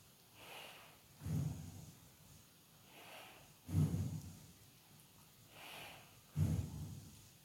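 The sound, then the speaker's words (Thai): Slow, deep breathing during a mindful breathing meditation: three unhurried cycles, each a soft airy inhale followed by a fuller, louder exhale, with nothing else in the background. “บอกกับตนเองว่าบัดนี้เราอยู่กับปัจจุบันเรานั้นเป็นผู้มีสติอยู่กับลมหายใจ B1 ลองสัมผัสหลายๆลมหายใจลองสัมผัสไปด้วยกันนะ”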